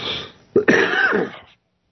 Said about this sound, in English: Excuse me, I didn't mean to cough in your ear like that, but like I said, I was getting over a cold the last couple of weeks, but it's still congestion city.